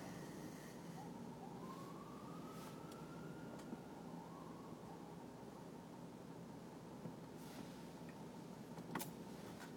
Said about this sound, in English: fire department ambulance.